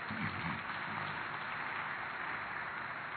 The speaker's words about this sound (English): Your clapping is very weak this morning.